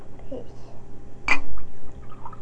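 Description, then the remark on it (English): A brief splash of liquid being poured, lasting only a moment, over a low, steady background rumble with faint murmuring around it. “Here, let me pour you some more.”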